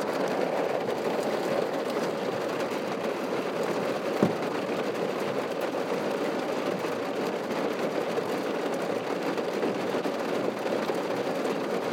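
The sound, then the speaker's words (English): Heavy rain pours in a steady, dense roar through a car window put down for a couple of seconds, unbroken for the whole stretch, with a single sharp tap partway through and no voices. “Put the window down for a couple of seconds and it's just rain.”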